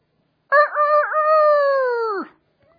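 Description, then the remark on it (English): A single loud rooster crow, clear, with a wavering start, a long sustained middle and a drooping finish, lasting nearly two seconds with silence around it. “The rooster crowed. Okay? Immediately the rooster crowed and Peter remembered the saying of Jesus”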